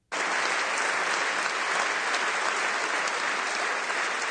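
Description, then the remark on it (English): Thunderous applause fills Canada's Parliament chamber, giving thanks to the sergeant at arms who took down a shooter: a dense, loud, steady wash of many hands clapping that starts abruptly and holds without a break, with no voices heard over it. “The sound here of thunderous applause for the sergeant at arms who took down the shooter in Canada.”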